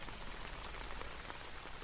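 heavy torrential rain

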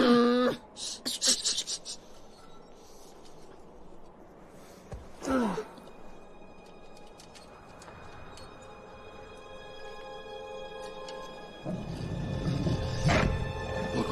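wolves growling

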